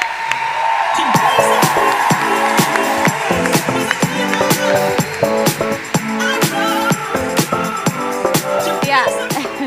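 Loud, steady applause from a crowd fills the whole stretch, with dense clapping mixed with whoops and shouted cheers.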